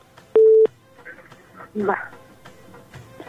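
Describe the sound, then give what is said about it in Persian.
A single loud, short electronic tone on a phone line as a caller's call to a radio show cuts off by itself, followed by faint, muffled voices and line noise. “فکر میکنم خود به خود تلفنشان قطع شد.”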